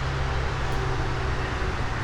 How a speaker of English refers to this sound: This little area is tucked up against where the creek comes out from the interstate and blah, blah, blah. So yeah, we got a lot of traffic noise.